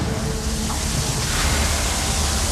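A heavy downpour at a volcano, heard while sheltering under rocks, roars steadily, a dense, constant hiss of rain with no breaks, loud, with no voices over it.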